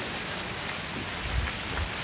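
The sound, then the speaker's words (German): Wind rustles through poplar leaves on an airfield in a steady, rain-like hiss, with a couple of soft low gusts swelling briefly near the end. No one speaks. “Jetzt gibt es ja auch schon dieses Geräusch des Windes in den Bäumen. Ist das eine Pappel hier?”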